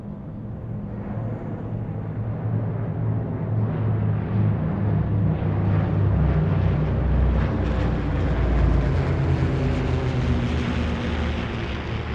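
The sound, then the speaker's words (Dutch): A loud, steady roar of an airplane taking off, its deep engine rumble swelling and growing brighter partway through, heard from on board the plane, with no voices. “Maar terwijl ons vliegtuig opstijgt, denk ik wel, wat zijn we nou eigenlijk aan het doen?”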